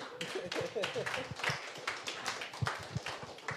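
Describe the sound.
Audience applause: a steady patter of many hands clapping for a few seconds, with voices calling out and murmuring underneath.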